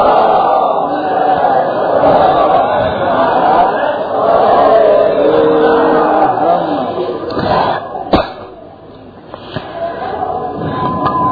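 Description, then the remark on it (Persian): An audience chants salawat together in a loud, steady rumble for about eight seconds, then breaks off with a sharp knock and fades into quieter murmuring and a few stray sounds. “صلوات خرج کن.”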